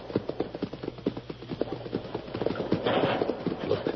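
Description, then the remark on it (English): Horses' hooves clip-clop in a quick, uneven patter as several horses are led together over hard ground near a cliff to be hidden behind brush, with a rustling burst of noise swelling partway through. “Hide the horses behind this brush.”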